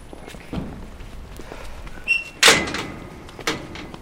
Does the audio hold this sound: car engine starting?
no